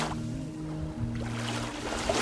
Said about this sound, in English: The waves of Lake Michigan.